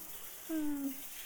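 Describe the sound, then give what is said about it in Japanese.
Shower water sprays in a steady, soft hiss while rinsing off soap foam, and a short low hum from a voice rises briefly over it midway. “じゃあ、泡はシャワーで流してくね。”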